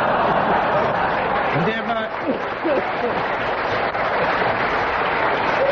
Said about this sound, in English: While the audience were laughing and clapping, Kenneth Williams pressed his buzzer.